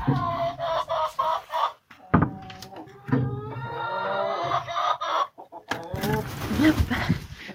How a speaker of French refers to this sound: D'ouvrir aux poules, elles sont presque toutes sorties.